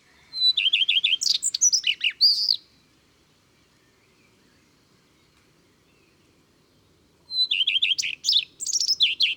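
A common redstart sings in April, two clear phrases separated by a pause of about five seconds, each a quick run of sweet notes ending in rapid twittering, over a faint low background hum.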